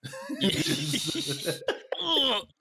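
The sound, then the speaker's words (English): A loud cough with a rough, strained burst, followed by a short break and a second harsh cough, with no talking. “I coughed, so I was like, I knew I was about to cough, so I was like, let me just.”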